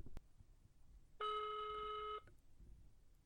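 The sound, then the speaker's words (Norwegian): A single steady ringback tone from an outgoing phone call that goes unanswered sounds for about a second, a sustained electronic purr with rich harmonics, standing out clearly above a faint low background rumble, with no talking. “da tok ikke Rebecca telefonen, så da får vi prøve plan B”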